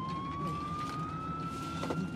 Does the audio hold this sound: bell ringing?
no